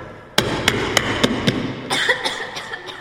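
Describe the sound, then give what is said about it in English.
A series of sharp knocks on a door: five firm, evenly spaced raps, then a few softer, quicker taps trailing off, with no voices; the wolf knocking at Grandmother's door in a telling of Little Red Riding Hood. “The wolf ran straight to Grandmother's house and knocked at the door.”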